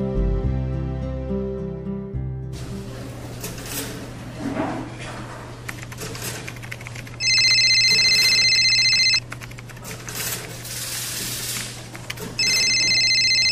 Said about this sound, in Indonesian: Itu dering telepon ke-8. Aku tahu pasti siapa penelponnya. Nenek.